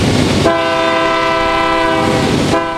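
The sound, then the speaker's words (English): A freight train rumbles past a crossing in New Haven, its loud horn blaring in one long sustained blast over the heavy rolling noise of the cars. “In New Haven, there were some shops down the hill by the river, but you always had to wait at the crossing for the freight train.”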